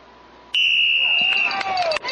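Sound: whistle blowing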